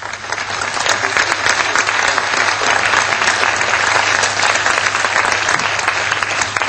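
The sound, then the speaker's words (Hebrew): Sustained applause from an audience for the rabbi, a dense, steady wash of many hands clapping at an even loudness for several seconds, with no voices standing out above it. “יהי רצון שהקדוש ברוך הוא ייתן הרבה הרבה כוח למורנו ורבנו, מגיע לו מחיאות כפיים גדולות.”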